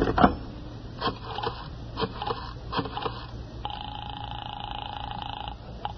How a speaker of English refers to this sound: I went into the living room and picked up the phone.